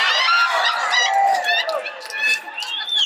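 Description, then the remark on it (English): A chicken squawks loudly, a continuous run of harsh, overlapping clucks and squawks that barely pause across a few seconds. “You trying to convince that chicken?”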